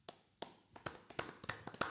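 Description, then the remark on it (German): Knuckles rap on a wooden beer table as a footballer-style beer-table applause, about ten sharp, hollow knocks in a loose, quickening rhythm, with no voices. “Wollen wir mal so einen richtigen Fußballer-Biertisch-Applaus?”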